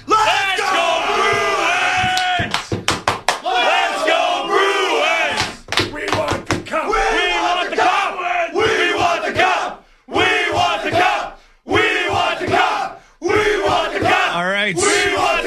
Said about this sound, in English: All right, before we let you guys go, can we get one more thunderous cheer?